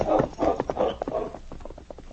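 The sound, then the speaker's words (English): Horse hooves clip-clop in a steady, quick rhythm of hollow knocks, then grow slightly fainter as two riders move off along a trail, with no voices. “Alex and Joe rode a short way out the south trail”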